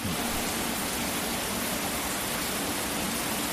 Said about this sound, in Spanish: Marqués de Vadillo fue otra de las más afectadas. Dentro de la estación, los tuiteros veían los chorros de agua enormes que caían en los túneles.